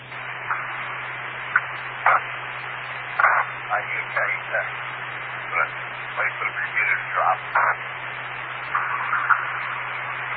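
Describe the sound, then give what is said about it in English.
A radio repeater channel hisses with steady, band-limited carrier static and a low hum while the repeater has not yet dropped, broken by irregular brief bursts of garbled noise throughout, at moderate level with no clear speech. “I'm waiting for the repeater to drop.”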